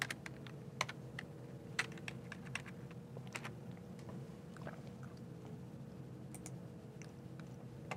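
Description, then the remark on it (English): Rapid, irregular clicking of keys on a computer keyboard, with sharp taps in uneven bursts over a steady low hum. No one speaks. “And let's use the exact same source that I have as soon as I can start typing this in.”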